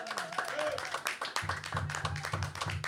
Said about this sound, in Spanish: Y fuerte, más fuerte el aplauso para …, la mejor bombista que he visto en este estudio.